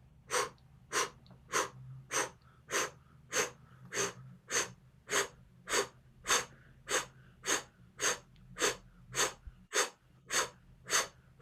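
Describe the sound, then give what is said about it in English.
A steady series of about twenty sharp, forceful breaths pushed out through the nose or mouth from the diaphragm in a 'blow breath' breathing exercise, evenly spaced roughly every half second, fairly loud, with no talking. “Now we're just going to start the blow breath. Breathing through the diaphragm, just out.”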